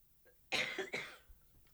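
Two harsh coughs in quick succession, the second a bit shorter, as a person clears a rough throat, with quiet background before and after and no talking.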